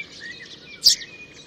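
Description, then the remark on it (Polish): A Eurasian tree sparrow chirps steadily with thin, high tonal calls, then gives one louder, sharper chirp near the end of the short clip, with no voices present. “Mazurkowi zmiana tonacji zdarza się bardzo rzadko.”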